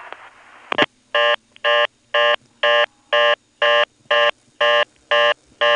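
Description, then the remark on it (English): A brief burst of a telephone power ring, then a steady run of about ten evenly spaced, buzzy ringtone pulses, clear and fairly loud, with no talking. “There's another case where you hear a power ring on Intercept, this time alongside the audible ringtone.”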